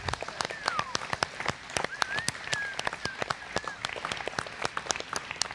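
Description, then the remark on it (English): A crowd breaks into a steady round of applause for three graduating seniors, dense overlapping claps at even loudness, with a few rising and falling whistles or whoops mixed in. “You can give them a round of applause if you would like.”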